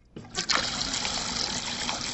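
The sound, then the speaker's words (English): A drinking fountain at Virginia Tech switches on and a thin, steady stream of water trickles and splashes continuously, with no one speaking. “This week, we eavesdrop on a water fountain conversation between two Virginia Tech students.”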